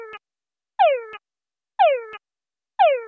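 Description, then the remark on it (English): A fast-rate male frog mating call plays over a loudspeaker to female frogs in a room during a research experiment: a falling, harmonic whine ending in a short click, repeated about once a second in a quick, steady series with silence between calls. “From one came a voice that had a very fast call rate.”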